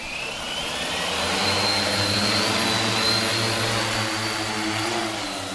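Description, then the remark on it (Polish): A steady buzz from the spinning propellers of a drone flying in search of a second person in need of a first-aid kit, with a droning hum and a hissy whine held at an even loudness throughout, with no voices. “Gdzie teraz leci dron?”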